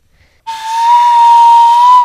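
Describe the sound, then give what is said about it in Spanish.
A single breathy flute note, sounded when a donkey snorted into a flute lying half-buried in grass, starts abruptly and holds one steady pitch for about a second and a half, with airy hiss around the tone and no other sounds. “De la flauta sonó un leve y dulce sonido.”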